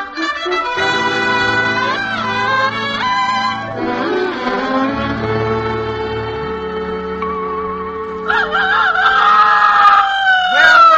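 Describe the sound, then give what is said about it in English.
Loud, harsh squawks and screeches from a fighting bird from Australia come in bursts over a steady bed of sustained music, growing more frantic toward the end. “ever seen a fighting bird like that?”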